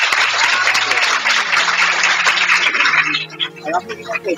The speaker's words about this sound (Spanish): Démosles ese aplauso grande.